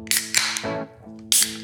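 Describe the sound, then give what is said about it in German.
A voice imitates the sound of Thor's Hammer striking: sharp, hissing bursts over a buzzing, pitched vocal drone, two quick hits, a brief fading rumble, then a final loud burst after a short pause. “Er macht jetzt hier das Geräusch von dem Thor's Hammer.”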